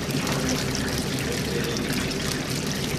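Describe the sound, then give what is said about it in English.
Battered fish that has been in a deep fryer for about 3 or 4 minutes, its batter just starting to colour, sizzles with a dense, steady hiss of bubbling oil and fine crackles, continuous throughout, with no one talking. “So coming back to the fish, it's been in the fryer for about 3 or 4 minutes now.”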